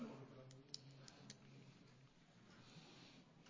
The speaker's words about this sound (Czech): A prosím, abyste vložili kartičku do hlasovacího zařízení.